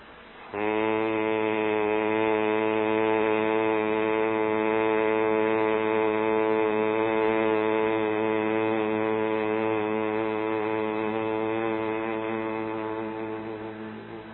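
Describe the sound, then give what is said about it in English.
A single long, steady hum made with the mouth closed while exhaling after a deep breath, as a pranayama breathing exercise, low-pitched and rich in overtones, holding one note for about thirteen seconds before slowly fading as the breath runs out. “Take a deep breath, and then as you exhale, but with the mouth closed, you make this sound.”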